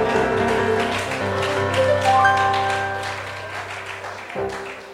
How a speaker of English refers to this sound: Clap for my brother.